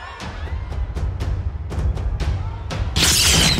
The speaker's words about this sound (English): Oh, gunfire.